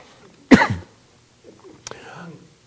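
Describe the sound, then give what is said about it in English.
A single sharp, loud cough bursts out, followed after a short pause by a softer throat sound and some quiet breathy murmuring. “I think I'm going to cough the rest of the day”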